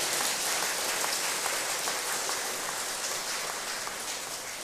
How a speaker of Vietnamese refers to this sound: Hãy cho một tràng pháo tay để thay thế sự tán dương của chư công đức.